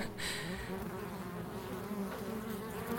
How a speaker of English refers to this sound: I've become slightly fixated on this bee's nest, and sometimes I find myself putting my ear up against the wall just to listen to what they're doing. I think about the bee's nest a lot, and the scratches have turned into full-on buzzing.